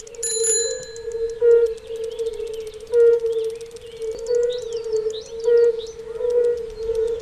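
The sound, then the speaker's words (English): A chorus of red-bellied toads along a dike gives soft, mellow hooting notes that blend into a continuous low drone with rhythmic pulses, while faint bird chirps flicker above. No one speaks. “But then we've got the red-bellied toad here as well. I know that just because it's such a peculiar sound that you can hear when cycling along the dike.”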